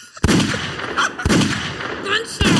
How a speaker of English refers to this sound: Gunshots.